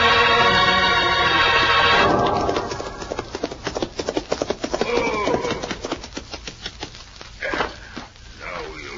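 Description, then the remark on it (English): Hooves of horses being ridden at a gallop pound in a quick, uneven rhythm, loud, following a brief tonal sound at the start, with the beats thinning toward the end. “You'll get our horses and ride back to Senor Joe's store.”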